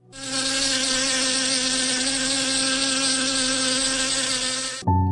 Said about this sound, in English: A mere buzzing sound of honeybee can frighten a person of the painful sting it can inflict to protect itself.